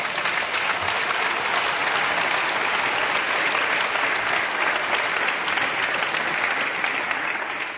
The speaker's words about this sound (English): Well, you just got your big round of applause that I was about to ask for.